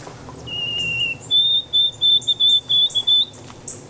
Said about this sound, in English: White-throated sparrow there's two choices. We're going to play two different birds, not the call note. Let's do the song.